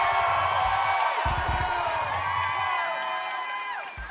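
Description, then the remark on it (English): A loud concert crowd cheers and whoops continuously for the drummer as he is introduced, many high voices layered into a dense roar, with some low rhythmic thumps underneath that briefly drop out partway through. “Come on, make some noise”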